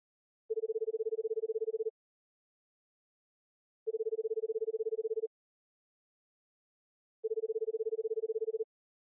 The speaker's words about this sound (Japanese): そうだ、お父様に電話してみましょう。